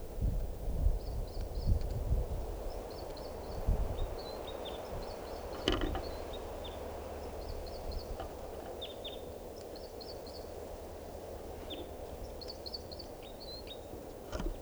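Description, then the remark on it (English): High, thin bird calls from a female and short song phrases from a male repeat every second or two, riding over a steady rumble of wind and rustling, with occasional soft clicks and no one speaking. “Now perched near 387, that's her calling, and him singing, and I'm pointing at the female.”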